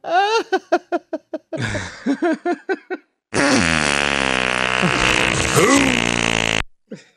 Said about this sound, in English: Oh, sorry, doctor. You pushed the fart button. You shouldn't have touched me there. That was your fault.